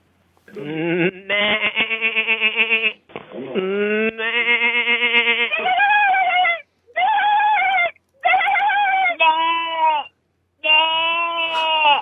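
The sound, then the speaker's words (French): A series of human voices imitating a goat's bleat, left by callers on the answering machine of the France Inter radio show Pop Pop Pop for a contest, one after another: wavering, nasal calls with strong harmonics, some long and quavering, others shorter, separated by brief pauses. “Pour tenter sa chance, il suffisait juste d'appeler le répondeur de Pop Pop Pop, de laisser son nom et d'imiter le cri d'une chèvre.”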